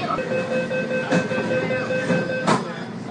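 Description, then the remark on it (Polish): A Hong Kong city metro train runs along the rails with a steady rumbling hum and a high electric whine, broken by a few sharp clacks as the wheels pass over rail joints. “No ale metro to oczywiście najtańsza opcja.”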